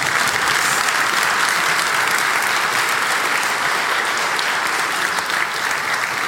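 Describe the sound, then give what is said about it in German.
A steady round of audience applause for the back-office team, dense clapping that holds at an even, fairly loud level for several seconds without talking over it. “aber Applaus für das Backoffice bitte.”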